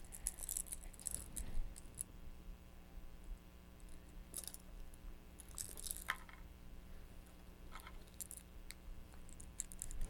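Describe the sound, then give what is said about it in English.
Keys jangle in short, scattered bursts of metallic clinking, with quiet pauses between shakes; soft, with no voices. “Here's another one that makes noise. Keys.”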